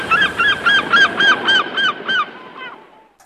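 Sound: seagull call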